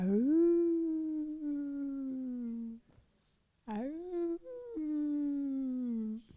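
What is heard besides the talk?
wolves howling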